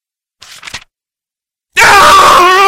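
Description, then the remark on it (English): A person screams in pain: a couple of short, breathy gasps, a brief silence, then a loud, sustained, anguished scream that continues to the end. “Draco waited until he heard Harry's first scream before casting the quietus.”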